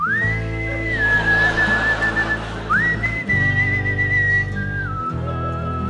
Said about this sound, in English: And then he began gleefully to whistle his favorite song.